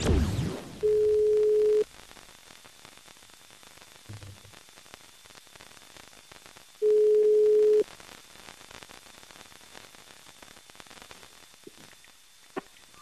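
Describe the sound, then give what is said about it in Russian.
A telephone ringback tone sounds twice, each steady one-second beep separated by a long silent gap, over faint line hiss, as the Russkoe Radio morning show Russkie Pertsy calls Dmitry Guberniev and waits for him to answer. “Но рискнем, да, звоним Губерниеву.”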